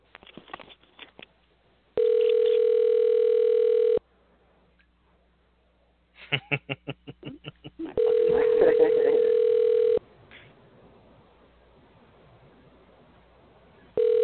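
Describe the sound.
An outgoing phone call rings back: a steady, mid-pitched tone sounds for about two seconds, pauses, and repeats, three rings in all, with brief muffled talk in the gaps.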